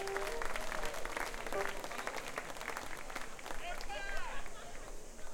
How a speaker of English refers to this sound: Let's all have a big round of applause.